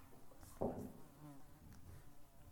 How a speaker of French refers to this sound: La mouche. Là.